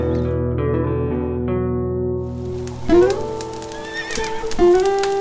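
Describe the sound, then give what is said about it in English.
A horse whinnies loudly outdoors in the cold, its shrill neigh rising and wavering twice, with soft clip-clopping hooves and faint ambient noise underneath. No one speaks. “Go take care of your horse and then come on in and get warm.”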